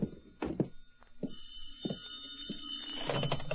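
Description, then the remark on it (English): A telephone bell starts ringing partway through, a bright, continuous metallic jangle that keeps going to the end, with a few dull thunks and knocks beneath it and no speech. “Oh, it'll stop ringing eventually.”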